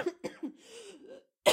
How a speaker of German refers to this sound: Husten, hört ihr? Das mache ich sehr professionell.